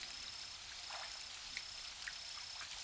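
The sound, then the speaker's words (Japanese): Steady, soft rain falls over an outdoor hot spring bath with stone paving, a continuous hiss dotted with a few louder individual drops and splashes, heard alone at low volume with no voices. “でも、雨が降ってても寒くないですよね。”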